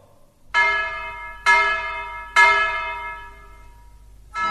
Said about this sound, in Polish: Nagle w ciszy odezwały się trzy uderzenia młota. To dzwonnik naprawiał zepsuty dzwon.